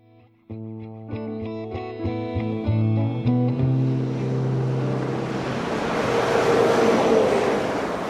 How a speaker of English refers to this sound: Traffic zips along Route 128. Known as America's high-tech highway, it circles Boston, passing through densely populated suburbs.